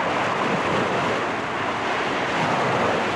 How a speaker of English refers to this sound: The morning waves were mine, and mine alone.